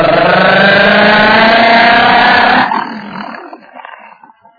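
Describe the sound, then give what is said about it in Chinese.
A car engine roars loudly and steadily for a couple of seconds as Zhang Xueliang's car pulls away after its door is shut, heading for the Marshal's residence, then abruptly drops off and trails away into a fading rumble. “车在那边，马上钻进汽车，奔车门关上。马达轰鸣，嘟嘟嘟嘟嘟嘟嘟嘟。”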